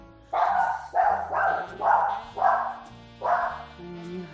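A dog barks loudly and repeatedly, six harsh woofs in a fairly steady rhythm, with a low hum running underneath and no talking.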